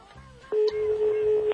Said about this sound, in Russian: Вот уже гудки есть.